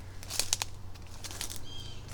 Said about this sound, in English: I can hear a stressed out bird. I don't know where he is. He's over there somewhere. Does that mean we've got an owl around here somewhere?